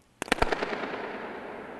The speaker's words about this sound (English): So let's listen to the sound of a balloon being popped at the spy station in Germany. Here we go.